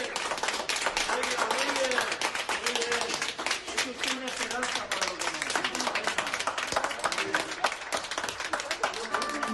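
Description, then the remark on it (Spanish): Sustained applause from hospital staff for survivors, dense rapid clapping that continues steadily throughout, with voices calling and cheering mixed into the clapping. “Todavía hoy nos emocionamos al escuchar aquellos aplausos.”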